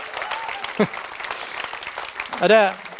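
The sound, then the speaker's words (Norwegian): A crowd claps steadily for the full three seconds, a dense, even wash of applause, with a couple of short voiced shouts or cheers rising out of it. “Ja, klapp for den.”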